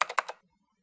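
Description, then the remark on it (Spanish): A short burst of typing on a computer keyboard, about three or four quick keystrokes in a fast rhythm, as a parcel tracking number is entered, then silence for the rest of the moment. “Un momento, yo tecleo en el computador.”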